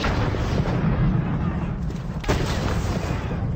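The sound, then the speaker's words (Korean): Cannon fire and explosions roar in a dense, continuous battle rumble, heavy in the low end, with one sharper blast cracking through near the end, as George Washington's American army fires cannon at and blows up buildings sheltering Hessian mercenaries at Trenton. “건물을 향해 대포를 쏘아대자 머지않아 해시안 용병 부대는 항복하고 말았습니다.”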